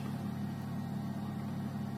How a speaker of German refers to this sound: Genau, weil das, was ihr da nämlich im Hintergrund hört, ist der gute Bauknecht-Kühlschrank.